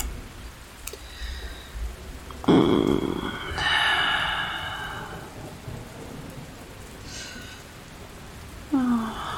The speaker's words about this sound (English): Listening to the storm so much, so much. It's just, I don't know. There's something about the power of nature creating thunder and lightning. All that light and all that noise.